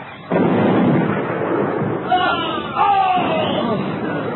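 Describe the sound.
A Russian cannonball falls among soldiers and explodes, bursting in abruptly and rolling on as a loud, sustained rumble, with shouting voices rising through the noise partway through.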